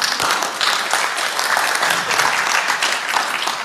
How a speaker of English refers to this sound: Thanks, gentlemen. Give him a clap.